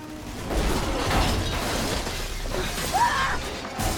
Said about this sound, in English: Glass from the cab of the digger rains down around Chowder as the monster shakes it